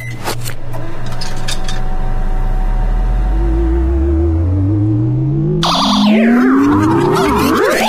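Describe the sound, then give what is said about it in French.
A microwave oven hums loudly, its drone climbing steadily in pitch, then breaks into a burst of crackling noise and swooping electronic whines near the end. No one speaks. “Bon, allez, pour la dernière fois, je mets ma tête dans ce micro-ondes.”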